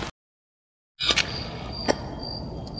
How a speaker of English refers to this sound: It's that noise in there. There's no noise in there, sweetie. There's a cricket.